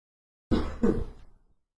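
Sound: door being closed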